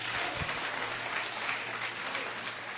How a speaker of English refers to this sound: Clap your two hands if you believe that.